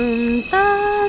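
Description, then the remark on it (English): A voice sings a short rising sequence of three steady, pure high tones, mimicking the New York subway chime heard on the platform as the train is about to leave the station; the notes are held and clear, with nothing else underneath. “And you hear these three pure high tones.”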